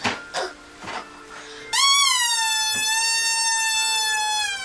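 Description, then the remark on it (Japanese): A chair squeaks: a few soft knocks, then a loud, high whining squeal that slides up briefly and holds a steady pitch for about three seconds. No one speaks. “うるさいんですけど、その椅子ピューピュー鳴ってるよ。”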